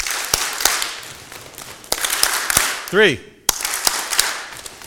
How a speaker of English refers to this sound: Three is three claps, three taps, three claps. Ready? Three.